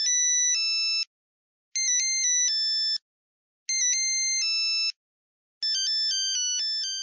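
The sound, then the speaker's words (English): A basic monophonic cell phone ringtone of the kind Zingy sold around 2004 beeps out a simple electronic melody in four short phrases, each about a second long and separated by brief pauses, clear and fairly loud with no voices. “And these were basic monophonic ringtones, simple bleeps and bloops, like this.”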